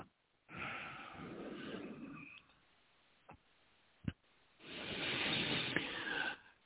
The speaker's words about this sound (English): Breathing with you.